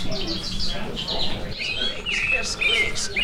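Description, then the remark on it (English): A plush toy bird, pressed in the middle, gives off a string of bright, high chirps and tweets matching its species, several overlapping in quick bursts, over a steady low murmur of background noise. “Each toy bird makes chirps that match their species.”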